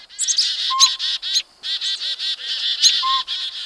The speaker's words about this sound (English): A pint-sized northern pygmy owl, not much bigger than a pine cone, hoots from a northwest treetop on a winter morning. Before long, this rufous brown diurnal owl, a determined predator of small birds and mammals, attracts a crowd.